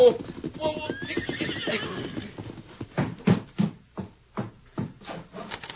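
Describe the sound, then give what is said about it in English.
A horse whinnies, then hoofbeats of a ridden horse clop along a broad wagon trail leading to a house on rolling prairie, in a steady, uneven rhythm, the sharp knocking strikes growing louder and more distinct as the horse approaches. “It echoed now at the hoofbeats of a horse ridden by the widow's youngest son,”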